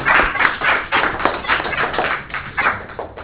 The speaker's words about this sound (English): So give Jackie and Jim Woods a round of applause, as well as your student teacher.